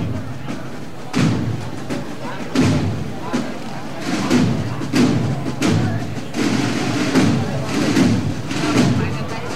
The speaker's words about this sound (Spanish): A toque de tambor se acerca el nazareno hasta la puerta de la catedral.